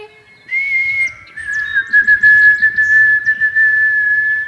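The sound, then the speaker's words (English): A person whistles an imitation of a white-throated sparrow's song: one clear, pure note, then a long, steady, slightly lower tone held for several seconds, with no talking. “So this is white-throated sparrow. We call it the sound of the North Woods.”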